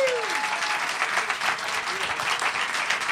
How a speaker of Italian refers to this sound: Esatto, ma il fatto che ci siano 100 persone per radio non si vede. E allora fate un applauso, auditorium.